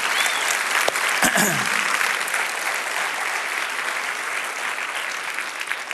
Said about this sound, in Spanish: Si Dios te habló, dale un aplauso al Señor, que Él se lo merece. Amén.